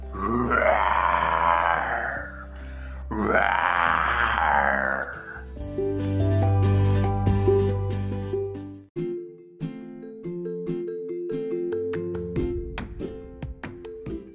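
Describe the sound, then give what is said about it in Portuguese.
A voice imitates a lion roaring with two loud, rough, growling roars, each lasting about two seconds, followed by a steady stretch of tuneful instrumental music. “E logo só havia o leão na clareira, rugindo desta maneira.”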